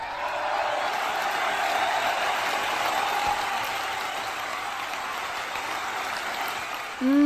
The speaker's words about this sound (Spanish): ¡Aplaudan, por favor! ¡Aplaudan!